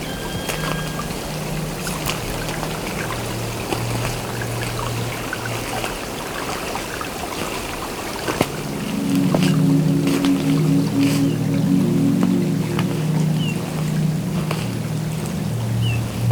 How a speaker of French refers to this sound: À l'abri du vent, au bord de la piste, enneigé, à moitié gelé, s'écoule ce petit ruisselet.